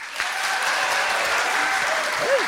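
A crowd applauds steadily to vote on which of the performer's friends should play the role of Ash, a dense, even patter of many hands clapping that holds at the same level throughout, with a brief whoop rising over it near the end.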